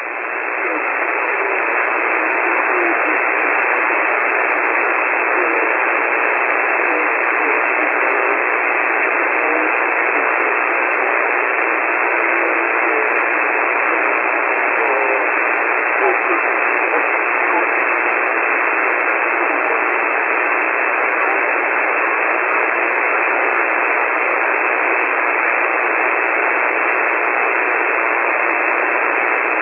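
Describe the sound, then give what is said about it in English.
Steady, unbroken radio static hisses through a narrow band like a single-sideband receiver for about thirty seconds, loud and even throughout, with no clear voice coming through the noise. “please tell us who you are, where you are, and what kind of old sideband junk.”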